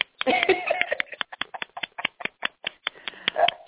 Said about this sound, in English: Have you ever had a standing ovation before, honey? No. Oh, there you go. You got your first standing ovation.